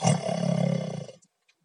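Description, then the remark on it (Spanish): One loud, rasping snore drawn out for just over a second, a low throaty rumble with a harsh buzzing edge, then silence broken by a couple of faint clicks. “Los grandes ronquidos que doy en mitad del lance lírico son veraz refrendo empírico que confirma que ya soy un convicto aedo onírico.”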